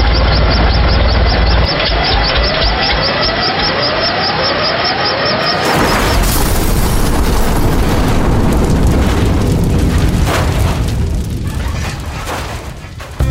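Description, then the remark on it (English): A helicopter slathered with maple syrup whines with repeated rising, siren-like sweeps over a low drone as it goes down, then a sudden loud crash bursts in and a harsh, roaring rumble fills the rest before fading slightly. “Our chopper is slathered with maple syrup. We're going down.”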